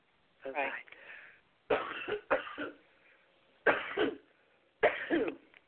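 A person coughs in several bursts, some rapid double and triple coughs, separated by short pauses, with a harsh throaty quality and no talking.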